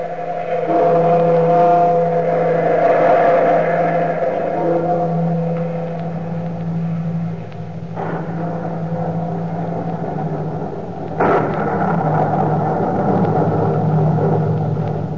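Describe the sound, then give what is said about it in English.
Loud, continuous rumbling of thunder with two sharp cracks partway through, layered over steady droning tones. No one speaks. “you who seek the wisdom of the universe beyond the time of man, look to the lightning and the thunder.”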